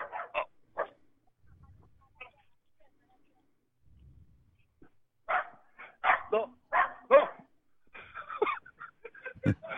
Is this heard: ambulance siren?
no